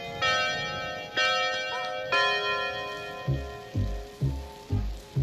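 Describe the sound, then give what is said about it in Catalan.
Three bright, ringing chime-like tones sound about a second apart, then a clock ticks in a steady series of low, hollow ticks roughly twice a second, fairly loud, with no voices. “Mira el rellotge, mira'l!”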